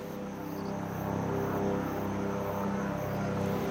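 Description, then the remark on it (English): A helicopter arrives by a road over the Butikosi River, apparently dropping off a group of emergency workers, its engine and rotor noise forming a continuous low, throbbing hum that holds at a fairly even loudness throughout, with no one speaking. “A helicopter is arriving.”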